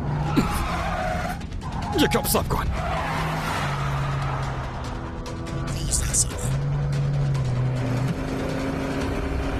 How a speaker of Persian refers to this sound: حالا پشت چراغ قرمز. حرکت کردم. لعنتی. ترافیک خیلی زیاده.